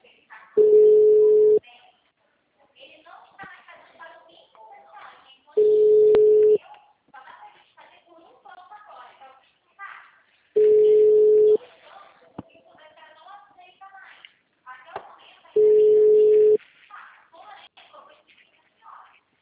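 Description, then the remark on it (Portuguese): A telephone busy signal: four steady, loud one-second beeps spaced evenly about five seconds apart, with a recorded voice speaking in the gaps between them. “mensagem gratuita de telefone ocupado.”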